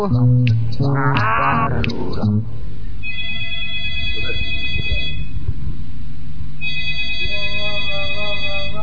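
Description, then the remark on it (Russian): An electronic telephone ring sounds in two long, steady bursts, fairly loud, following a brief wavering vocal sound at the start, with a low murmur underneath. “Вот зазвонил телефон, я его возьму.”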